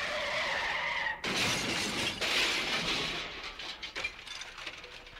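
A car crash effect: a skidding squeal gives way to a loud, sudden impact, followed by glass shattering and scattered debris clattering as the noise trails off. No one speaks.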